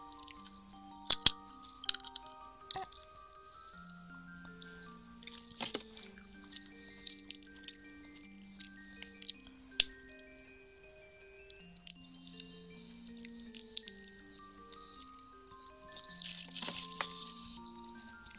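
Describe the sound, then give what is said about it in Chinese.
Crunchy bites of a small mouthful of something too hard to break apart by hand, followed by wet chewing and soft squishing, with a few sharp cracks, while faint tonal background music plays underneath; no one speaks. “自己是掰不动的，我要咬一口。它咬个小口口，它咬个小口。”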